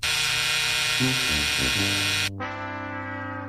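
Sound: buzzer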